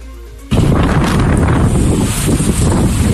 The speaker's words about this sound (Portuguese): El viento provoca que solo caminar sea muy difícil por la calle.